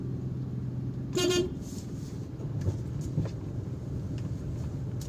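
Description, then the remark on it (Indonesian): Steady low engine rumble of slow, congested traffic in front of the Masjid Raya mosque after Friday prayers, broken by one short, bright car horn toot early on; faint clatter and muffled voices linger under the drone. “Macet, cuy.”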